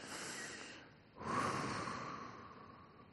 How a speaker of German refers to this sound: Ab jetzt einfach mal einatmen und dann eine Minute Ruhe. Ihr dürft auch atmen, ihr müsst ja eine Minute nicht einfach dann anhalten, ja.